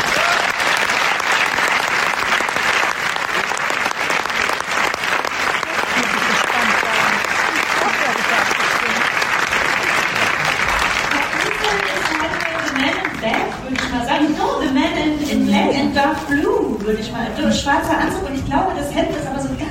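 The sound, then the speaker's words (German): A large audience claps loudly in a dense, steady wash of applause for the winner of the Deutscher Hörfilmpreis 2026, Naturaudiodeskription. After about twelve seconds a voice starts speaking while the clapping carries on underneath. “Einen großen Applaus!”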